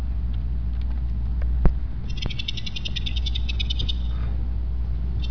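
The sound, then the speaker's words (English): Male southern pine beetles calling: a rapid, rhythmic train of high, dry clicking chirps lasting a couple of seconds, heard over a steady low rumble with no talking. “So this is the southern pine beetle male communicating with the female.”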